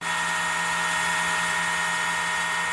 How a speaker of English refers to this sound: This is a dog barking. Sounds like a dog getting cleaned. Or a hairdryer, maybe. This dog's name is Gabe.